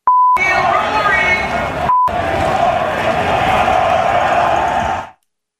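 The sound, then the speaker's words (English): At the Ryder Cup at Bethpage, a large crowd led by an MC chants an insult at Rory McIlroy loudly and steadily, punctuated by two short, high-pitched censor bleeps, one right at the start and another about two seconds in, before the roar cuts off. “And she's leading an FU Rory cheer with the crowd.”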